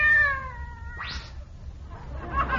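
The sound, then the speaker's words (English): A cat gives one loud, drawn-out meow that slowly falls in pitch, followed by a short breathy hiss-like burst and a faint rustle of noise. “If he heard a pussycat roar, it would scare his pants off.”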